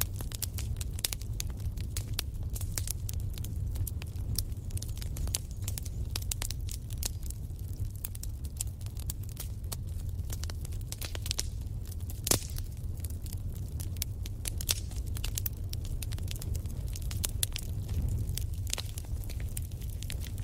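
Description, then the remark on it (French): A fire in the living room of a small house by the sea crackles steadily, with sharp irregular pops and snaps scattered over a low, constant roar of burning, and no voices. “Le son du feu qui crépite à quelque chose de réconfortant.”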